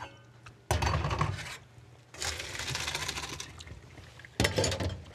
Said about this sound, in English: So I'm just going to bring it over here, throw it through a colander.